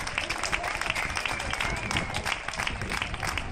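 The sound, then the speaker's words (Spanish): Steady, dense applause from many hands for health workers, a continuous crackling wash of claps at even loudness with a faint murmur of voices mixed in underneath. “y yo también aplaudo a los sanitarios hasta ahora.”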